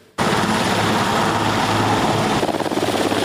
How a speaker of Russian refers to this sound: Небо над швейцарским Бюргенштоком 15 и 16 июня было в буквальном смысле заслано прилетающими вертолетами мировых лидеров.